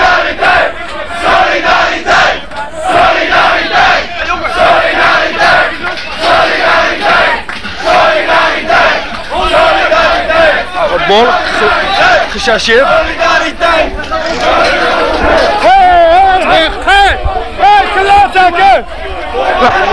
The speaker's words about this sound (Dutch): Nou, we staan nu in het poortje. Allemaal hoelen.